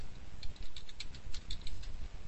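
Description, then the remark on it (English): Quick, light clicks of typing on a keyboard, tapping out in an uneven patter of about a dozen strokes over a couple of seconds, faint against a low background hum with no voices. “You're typing.”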